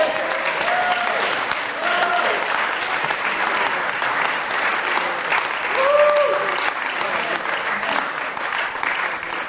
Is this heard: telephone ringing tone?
no